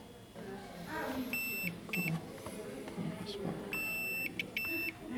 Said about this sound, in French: Donc là, le bip qu'on entend... C'est le testeur qui dit si le courant passe ou pas. Là, il y a un souci. Ça passe pas.